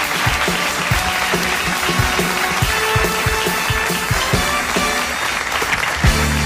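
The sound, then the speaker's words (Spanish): Steady applause from a crowd fills the whole stretch, dense clapping with a loud, even intensity and a faint low tonal hum underneath, no voices standing out; applause in thanks for a gift sent from Bavaria. “Un aplauso para Pollo Bavierés.”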